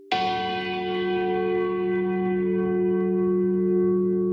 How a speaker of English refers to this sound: In Samoa's capital, Apia, church bells ring out to welcome the faithful to worship.